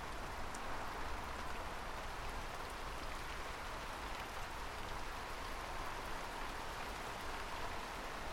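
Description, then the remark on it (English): Heavy rain pours down in a dense, steady hiss, unbroken for the whole stretch with a crackling patter of drops. No voices are heard. “But then the heavens opened.”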